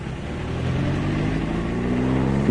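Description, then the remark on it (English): A car engine rumbles and rises in pitch as the car moves off in heavy traffic, a steady drone with harmonics climbing over a couple of seconds, no voices. “This is always the worst bit, anyway. Ah, that's better. We're on the move now.”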